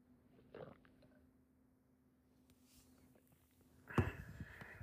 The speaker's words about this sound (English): So just give me one moment, please, as I sip my coffee.